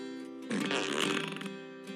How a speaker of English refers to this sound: Something kind of special about this truck. It makes a fart noise when you start it up.